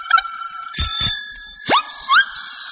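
The bell of a silver bicycle with gold wheels rings with a lingering metallic shimmer, joined by short honks from its horn and a quick rising whistle-like swoop from its siren, all clear with no voices.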